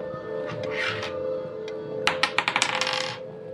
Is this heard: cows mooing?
no